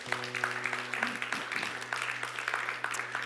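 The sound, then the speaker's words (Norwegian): An audience breaks into steady applause, dense overlapping claps at moderate volume, with a low sustained hum underneath throughout. “Det en ekstra applaus for det, det synes jeg de fortjener.”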